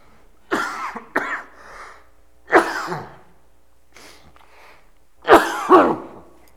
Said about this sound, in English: excuse me, I've got a cough coming.